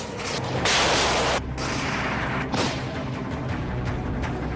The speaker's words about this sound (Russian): Снаряды накрывают группу диверсантов в поле. Осколки пробивают украинскому военному легкие.